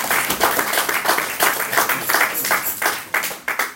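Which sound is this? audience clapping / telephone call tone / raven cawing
audience clapping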